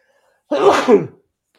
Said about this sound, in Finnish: nyt mä oon aivasta.